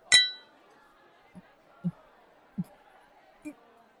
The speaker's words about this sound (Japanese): そんじゃ、今日もお仕事お疲れ様した。乾杯！